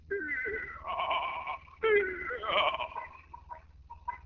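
A high, quavering falsetto voice sings a TV theme tune in wobbling, sustained notes with heavy vibrato, fairly loud, with the slightly hissy, thin quality of an old tape recording.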